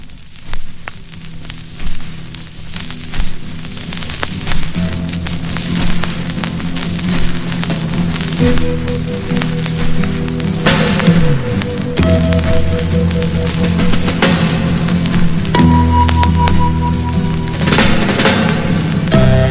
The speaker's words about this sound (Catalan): I sentirem ara un segon tema, aquest cop en aquest cas del segon àlbum de …, …